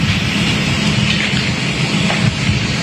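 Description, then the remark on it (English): A wildfire ember storm in Pacific Palisades: a loud, steady roar of wind-driven noise with a deep rumbling undertone and a dense hiss, constant throughout with no voices. “Well, firefighters have told me they have no water on this block, and you may be able to make out the ember storm that we're in the middle of.”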